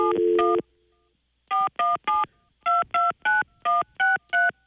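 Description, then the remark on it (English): A short burst of tone opens, then after a brief pause ten crisp telephone keypad beeps follow in a quick, even rhythm, each a clear electronic dual-tone press, fairly loud with no talking, as a phone number is dialed to call a woman. “So let's call her real quick right now and see if we can get her on the phone.”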